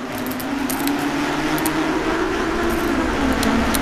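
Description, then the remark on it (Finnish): A steady motor whine drives along continuously, with light metallic clinks and rattles scattered on top, as a bumper car is driven out of the Linnanmäki amusement park by Tatu and Patu. The car is drawing electricity from a tram's pantograph. “Tatu ja Patu ajavat törmäilyautolla ulos Linnanmäeltä.”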